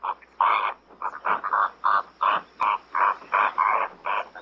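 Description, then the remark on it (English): A rapid series of harsh, nasal honking calls, roughly a dozen in quick succession, goose-like and fairly loud, as greater flamingos chatter together with no voices present. “Greater flamingos that have a larger repertoire of dance moves are considered more attractive, and the best dancers tend to pair up.”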